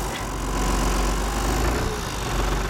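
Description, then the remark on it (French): A tractor engine runs steadily, a deep, constant diesel rumble with a throbbing low hum and no change in pace, with no one speaking, during a tractor ride on wet sand at the seaside after the tide, between Saint-Val-la-Hougue and the island of Tatiou. “Je vous emmène faire un tour de tracteur.”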